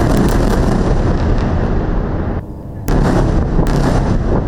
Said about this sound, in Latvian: Ap šī paziņojuma laiku skanot virknē spēcīgu sprādzienu, sākās intensīva Gazas joslas ziemeļdaļas bombardēšana, šķiet intensīvākā līdz šim.